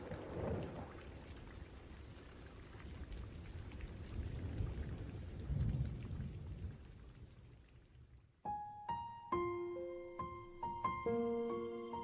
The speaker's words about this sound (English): Outside, the wind and rain had slackened a bit, and I mentally prayed the sky would clear by the time the sun rose.